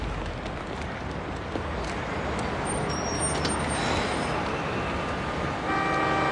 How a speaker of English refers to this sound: Across the street, a bus passes. An ad on its side reads, "The New Sparkle Magazine, Class of 2004.